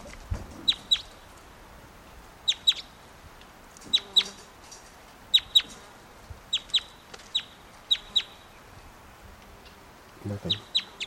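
A bird clucks in short, sharp paired bursts, repeating every second or so in an irregular rhythm, clear and fairly loud against a quiet background.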